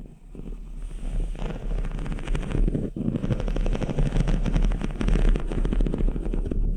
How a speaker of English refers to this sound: This is her rubbing her hands on this jump wire. That is sick. And I mean sick in a bad way. Like twisted.